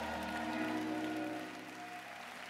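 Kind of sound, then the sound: crowd, audience clapping hands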